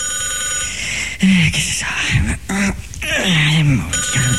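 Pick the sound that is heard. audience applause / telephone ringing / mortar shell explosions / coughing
telephone ringing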